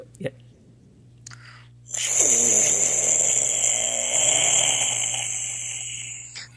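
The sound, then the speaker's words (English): A voice imitates a computer fan: after a couple of brief mouth clicks, a steady, breathy whirring hiss with a rough, groaning hum underneath holds for about four seconds before easing off. “Anyway, computer fan.”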